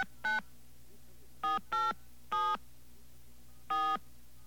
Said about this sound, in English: All right, let's get ourselves a dial tone here. Okay, there's our dial tone. We're going to dial a number, an 800 number.